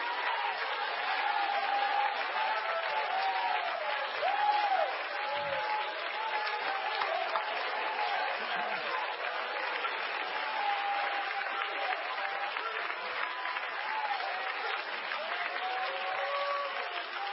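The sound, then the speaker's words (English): An audience claps steadily and loudly for about seventeen seconds, a dense unbroken wash of applause with scattered whoops and cheering voices rising over it. “Oh, come on, clap them with salt.”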